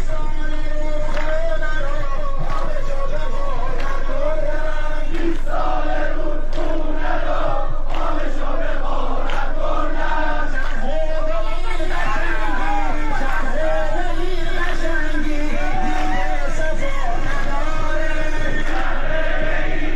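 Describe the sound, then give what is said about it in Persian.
A large crowd of farmers in Isfahan protesting the lack of water allocation for autumn wheat planting, gathered on the bed of the Zayandeh Rud, chants and shouts together, many voices rising in loud, rhythmic bursts that continue steadily for the whole stretch, with a dense babble of voices underneath. “حرکت اعتراضی کشاورزان که مربوط به عدم تخصیص سهم آب برای کشت پاییزی گندم است از روز دوشنبه 17 آبان با تجمع کشاورزان در مقابل شرکت آب منطقه‌ای و صدا و سیمای مرکز استان اصفهان آغاز شد و از آن روز به بعد بر بستر زاینده رود ادامه پیدا کرده است.”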